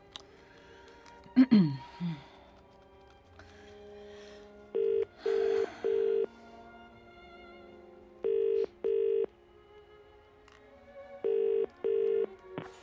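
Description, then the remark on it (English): An outgoing call's ringback tone repeats three times, each a steady double burst with short gaps between, heard clearly through a phone line after a brief burst of handling noise at the start. “I'm ringing to see if you can help me out with Lillian and Justin's wedding.”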